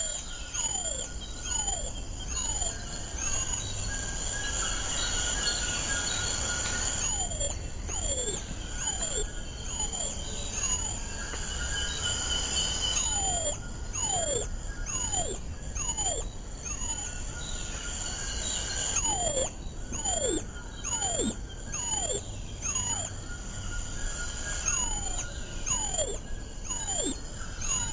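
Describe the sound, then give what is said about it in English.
Golden lion tamarin calls: a steady stream of high, thin whistles that slide sharply downward, repeating in quick clusters over a constant buzz of insects, with no one speaking. “And hear the sound of the golden lion tamarin.”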